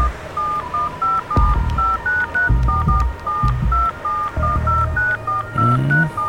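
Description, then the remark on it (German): A rapid string of short electronic keypad beeps, about twenty evenly spaced tones as a number is typed into a mobile phone and sent, with soft handling noise and low thumps in the background. “Und senden. Mal sehen. Manchmal kann man Handys aus der Ferne anschalten und eine Verbindung herstellen, ohne dass der Angerufene das mitbekommt.”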